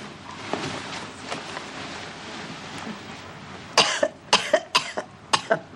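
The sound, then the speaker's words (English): A run of sharp, repeated coughs, about six in quick succession, fairly loud after a few seconds of quiet room tone with faint earlier throat sounds. “you got a cough drop?”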